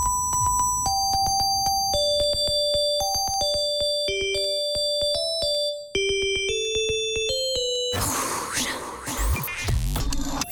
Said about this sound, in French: pour bien entendre cette sonnerie polyphonique, cette sonnerie Nokia, version année 2000, donc avec un titre à découvrir de l'année 2000.